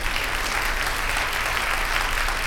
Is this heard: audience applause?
yes